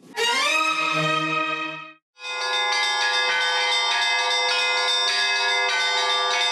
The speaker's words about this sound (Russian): Колокольные звоны России. Плывут они над ее просторами, лесами и полями, городами и весями, золотыми куполами православных церквей.